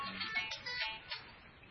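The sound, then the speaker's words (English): A cell phone ringtone plays a short electronic melody of bright, bouncing tones, fairly quiet, with no one speaking over it. “You know, what can you learn about people based on their cell phone ring?”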